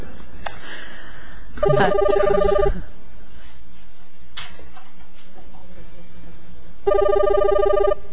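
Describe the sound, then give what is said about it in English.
A phone rings in two separate bursts, each about a second long with a bright, warbling electronic tone, separated by a few seconds of quiet room noise with faint background murmur. “Everybody's reaching for their cell phones.”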